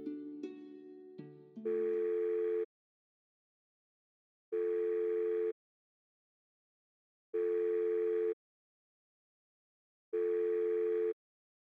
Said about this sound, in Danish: Det tog lang tid, men nu har han endelig fundet det. Geo ringer til nummeret.